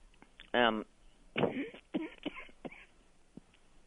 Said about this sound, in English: Excuse me, I have a cough and a tickle this morning. But, that's all right.